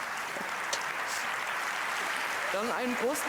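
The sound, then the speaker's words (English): An audience claps steadily throughout, a dense, continuous wash of applause for the day's speakers gathered on stage, with a man's voice starting to speak over it toward the end. “It's a big hand of applause for everything that happened in the last 4 years.”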